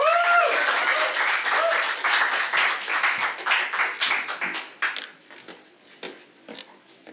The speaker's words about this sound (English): Give it up again for him. Give it up again for him. That was a weak clap, everyone. I know this is a polite historical society meeting, but you can do better than that.